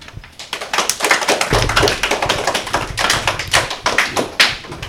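An audience at a school quiz game applauds steadily for several seconds, a dense patter of overlapping claps with a low rumble underneath, staying fairly loud throughout with no talking.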